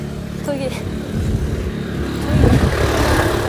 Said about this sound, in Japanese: なんか意外と人いないとか言ってたけど、人通り多くない？さっきからなんか車とかバイクとか、時間帯的なところかな。今夕方5時なる前ぐらいなんですけど